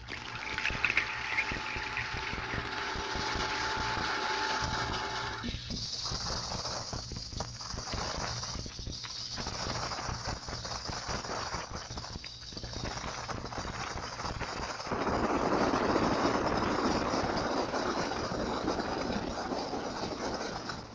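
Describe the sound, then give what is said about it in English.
A ship's propeller thrums through a sonar hydrophone as a steady, rhythmic churning beat under a wash of underwater hiss; the listening filter shifts abruptly from 500 to 6000 cycles partway through, and a prop count detector is switched on to intensify the beats. “Then the prop count detector was switched on to intensify the prop beats.”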